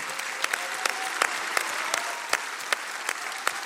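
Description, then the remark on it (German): A crowd applauds steadily, a dense wash of many hands clapping with a few sharper, louder claps standing out at irregular moments. No one speaks over it. The applause is offered to God. “Lass uns unserem Gott mal einen großen Applaus geben, was er tut in unserem Leben.”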